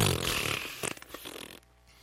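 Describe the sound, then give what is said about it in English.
A balloon deflates with a loud, raspy farting squeal lasting about a second and a half, sputtering unevenly before cutting off abruptly into near silence. “Farting balloon.”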